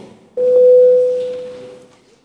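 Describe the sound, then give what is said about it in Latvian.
A single steady electronic bell tone sounds at one pitch in the Latvian parliament (Saeima), rung before a vote on a bill, starting abruptly and holding for about two seconds before slowly fading, with faint murmur beneath it. “Paldies, lūdzu zvanu.”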